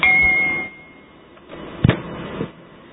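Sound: doorbell ringing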